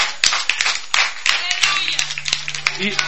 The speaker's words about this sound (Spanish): Y ese aplauso tan mediocre, ¿qué pasó?